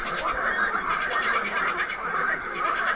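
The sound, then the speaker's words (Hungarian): A green toad calls in a loud, sustained high trill of rapid pulses that runs unbroken through the whole clip, with a dense chorus of other frog calls blended underneath. “A következő a zöld varangy hangja lesz.”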